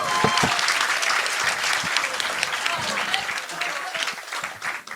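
A room full of people claps steadily for several seconds, a dense, continuous wash of applause that stays loud throughout and tapers slightly at the end.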